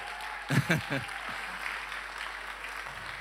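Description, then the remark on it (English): An audience at Horizon Church claps for the Lord during a morning service, a steady, dense patter that carries on throughout, with a few louder bursts near the start and some indistinct voices mixed in. “Can we give the Lord a clap this morning?”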